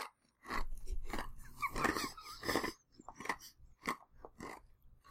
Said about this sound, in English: You're chewing ice!